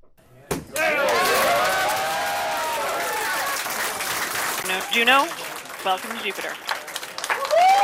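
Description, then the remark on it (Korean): A sudden burst of cheering and shouting from NASA scientists at the Jet Propulsion Laboratory in California as the Juno probe entered Jupiter orbit on the night of July 4, with steady clapping filling the background, sustained excitement and whooping voices rising and falling over several seconds. “네, 나사의 무인 우주 탐사선 주노호가 목성 궤도에 진입하자 나사 과학자들이 환호하면서 기뻐하는 소리 들으셨는데요.”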